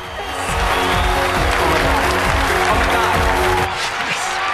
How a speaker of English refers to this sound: A spotlight comes up on Omer. He looks delighted and claps.